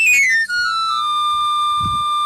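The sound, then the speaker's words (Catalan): A knife sharpener's pan flute plays a quick, bright run sliding down the scale, then holds one long, steady high note, with a brief low thump near the end. “Un altre cop aquesta sintonia d'afilador.”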